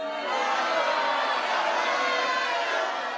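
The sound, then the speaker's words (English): A crowd booing, a dense, steady roar of many voices that holds at an even loudness for about three seconds, with no single voice standing out. “And where's the booing noise?”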